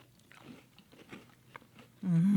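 Someone bites into a Honey Stinger protein stroopwafel with a caramel filling and chews, making soft, irregular crunching bursts for about two seconds, followed by a loud, sustained humming voice of enjoyment.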